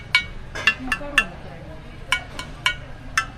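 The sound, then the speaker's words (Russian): Four glass storage jars for dry food clinking together about eight times in uneven bursts, each a sharp, bright tap with a short high ringing tone, over a faint low hum. “4 стеклянные банки, $22.”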